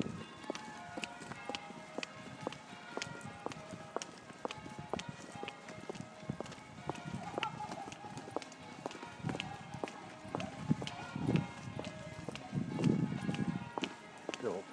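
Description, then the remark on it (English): Church bells pealing at night, about an hour before Christmas Day, in a steady, rapid cascade of overlapping ringing strikes, their tones lingering and layered. The ringing stays fairly loud throughout, with a low rumble swelling near the end. “And I'm going to leave you with the church bells because it's lovely”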